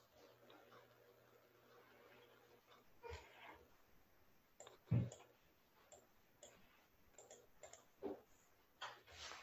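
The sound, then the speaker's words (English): Irregular clicks and taps of someone typing out a Quran verse on a computer keyboard, with a few sharper, louder keystrokes standing out over a faint steady background hum. “I was just typing it out here,”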